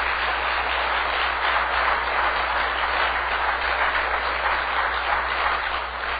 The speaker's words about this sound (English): I'll ask first of all, how many have ever been healed of something in the house of God? I want you to applaud the Lord.